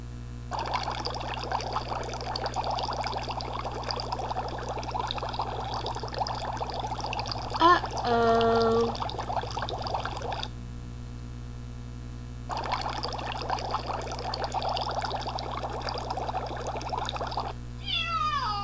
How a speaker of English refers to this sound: Pardon me while I give my cat a bath. Okay. Good kitty.